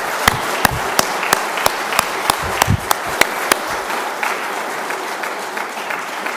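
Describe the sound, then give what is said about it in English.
A crowd applauds the boys and girls with dense, steady clapping, some sharper individual claps standing out early on, before the applause thins and softens toward the end. “Well, I think that deserves a big round of applause for all the boys and girls there.”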